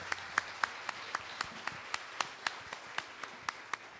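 Audience applause for a graduate: a quiet, steady run of crisp hand claps at a brisk, even rhythm, sounding like only a few people clapping, with no talking over it.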